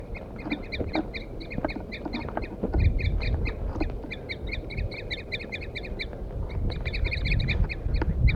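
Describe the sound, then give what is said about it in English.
Wild birds, mostly males, call over and over in quick, overlapping bursts of short, bright, clipped notes as they attack a recording of birdsong left playing on a stump. The calling is steady throughout, over a low rumbling background noise. No one speaks. “The recording I had left 4-3 on the stump, and I got the wild birds now attacking him. Wild male mostly.”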